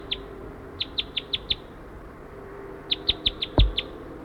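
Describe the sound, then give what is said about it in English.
A wild male bird calls loudly in two bursts of sharp, high-pitched chirps, five evenly spaced notes then six more, over a low background hum with a brief thump near the end. “Circling that male who's hanging around, still calling loud.”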